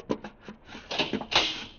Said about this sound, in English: Earthman, you will rise from your seat and open that door.